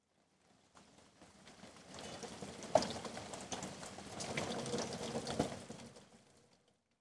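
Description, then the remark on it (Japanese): Steady, dense rain pours down for several seconds, a broad hissing wash with scattered pattering drops, fading in at the start and tapering away at the end, with no voices. “すごい雨ですね。”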